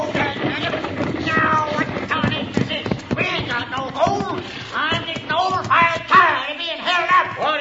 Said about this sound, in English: All right, driver. Hold down on those horses. Whoa!